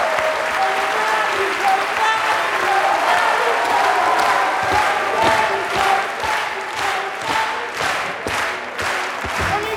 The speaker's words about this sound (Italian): La rappresentante di lista, possiamo prenderci questo applauso? Potete prendervi assolutamente questo applauso.